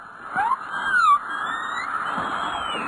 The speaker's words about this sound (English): I see number 9 is the hum of power lines. Is that what that is? Yeah